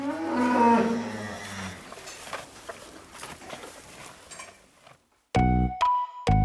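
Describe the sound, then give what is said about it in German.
A cow on a farm lets out a long, low moo, followed by a stretch of shuffling barn noise, then loud, harsh bellowing bursts near the end. “Damit werden die Kühe einmal am Tag gefüttert mit einem sogenannten Futtermischwagen.”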